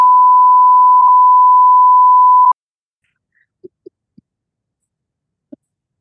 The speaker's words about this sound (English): This is the longest beep.